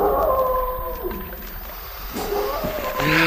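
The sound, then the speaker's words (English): Several long, wavering howls overlap in a mournful chorus, rising and sliding in pitch over a low rumbling background, fairly loud and sustained throughout, like a pack of wolves calling together. “The moonlight affects the wolves.”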